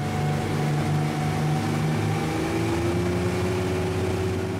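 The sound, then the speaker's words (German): A motorboat engine drones steadily and loudly throughout as the boat heads out to sea off Luganville, Vanuatu, in the South Pacific, its low harmonic hum shifting slightly in pitch, with no voices. “Man muss schon ins Boot steigen und ein paar Minuten aufs Meer hinaussteuern, um die größte Hafenanlage im Südpazifik in voller Länge zu sehen.”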